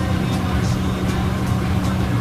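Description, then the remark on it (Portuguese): A microwave oven running with a steady, droning low hum at an even volume, faint hissy bursts recurring about every half second over the constant whir. “Esse aí, Gugu, é um som de micro-ondas.”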